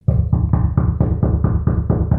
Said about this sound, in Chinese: 那晚郭许刚刚吃完晚餐，正是想要睡觉的时候，忽然间听见有人敲门，敲得很急促啊。